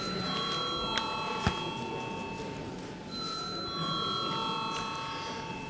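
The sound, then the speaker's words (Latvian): A bell rings steadily in the Latvian parliament to call a vote on a bill in its second and final reading, a sustained high metallic tone that pauses briefly midway and then continues, with no one speaking. “Paldies, lūdzu, zvanam.”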